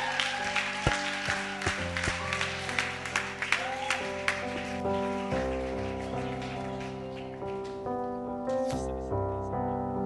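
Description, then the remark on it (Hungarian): A crowd claps steadily for people who have just prayed to accept Jesus as their saviour, a dense crackling patter that is strongest for the first half and then thins out, while sustained keyboard chords play underneath throughout. “Oké, tapsoljuk meg ezeket az embereket.”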